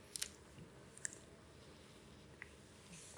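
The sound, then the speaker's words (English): Quiet mouth sounds of someone sipping water: a few soft wet clicks and smacks spread over a few seconds, with no talking. “From the Jewish Encyclopedia, just have a bit of water to.”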